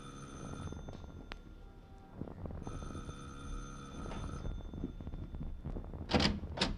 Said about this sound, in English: Now, you ring the bell